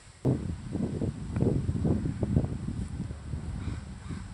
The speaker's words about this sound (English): So I'm under a tree right now, and it's really windy, and I'm trying to get my phone to pick up the sounds of the leaves rustling.